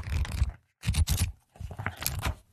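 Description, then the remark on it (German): A Stabilo pen and a paper notepad are handled, getting ready to write, in three short bursts of scraping and rustling, separated by brief pauses, with no one talking. “Bitte nehmt euch einen Block, einen DIN A4 Block im besten Falle, einen Stift zur Hand.”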